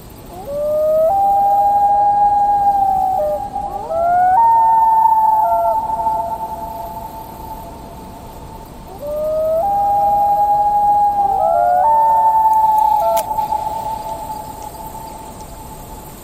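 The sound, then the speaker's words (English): A loon's long, rising wail sounds twice over a glass-still lake at sunset, each call sliding up and holding a clear, mournful tone before breaking to a higher note, over a steady hiss of insects. “Beautiful reflection on the water with the last few bits of sunlight, and then you hear the wail of a loon.”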